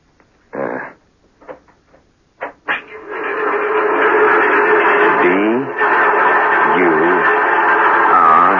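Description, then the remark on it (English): A few irregular tapping bursts of Mark V tapping code, a trick Morse-like code used in prisoner of war camps, played back from a recording, then a loud, continuous buzzing drone with wavering pitch, like a scratchy recording, fills the rest. “It's the Mark V tapping code, a sort of trick Morse device so that man could communicate with each other in prisoner of war camps.”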